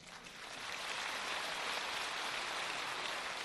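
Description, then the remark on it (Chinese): An audience at a Buddhist teaching by Master Lu applauds the line that the highest realm is having no realm: a dense, even wash of many hands clapping that swells in over the first second and holds at a constant level, with no voices over it. “那单单这句话虽然在鼓掌，我就听到一半人的声音，因为还有一半人没听懂。”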